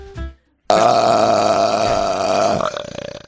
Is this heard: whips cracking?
no